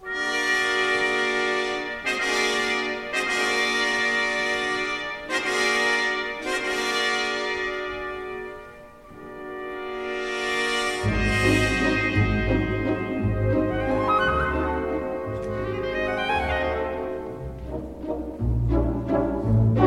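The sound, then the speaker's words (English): Tense, buzzing brass chords from muted trumpets and stopped horns, the horn players blocking their bells with their right hands for a forced sound, open the second movement of a Rachmaninoff work in short repeated stabs, then give way to a fuller orchestral passage with a low bass underneath. “The second movement opens with menacing chords played by the trumpets, who use mutes, and the horns, who block their bells with their right hands, creating a forced sound.”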